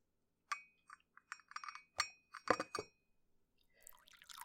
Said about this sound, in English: But first, I was just gonna have some tea. Can I pour you a cup?